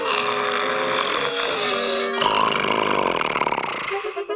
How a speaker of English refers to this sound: You mean … snoring? Right, we can't sleep away. And we're gonna stop it if you can't.